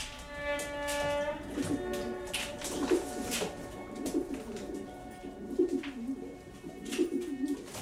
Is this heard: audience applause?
no